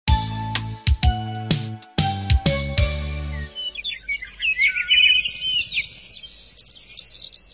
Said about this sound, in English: The sun is rising. Birds are singing songs. It is another wonderful morning in the wonderful woods.